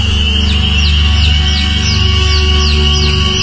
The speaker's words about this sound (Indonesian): Dan tidak pedulikan suara anak ayam itu.